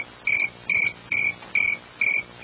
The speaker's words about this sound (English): That's annoying. Mother Nature, stop it. I hate the sound of the crickets.